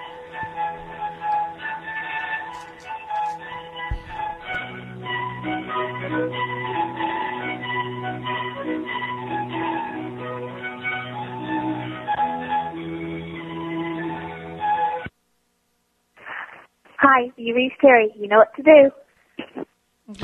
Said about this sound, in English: Enjoy this Verizon ringback tone while you're talking.